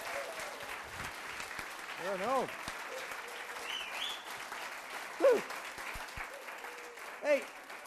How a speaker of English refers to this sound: We're blessed to have people come and preach to us, aren't we? And this morning is no different. Please give a massive round of applause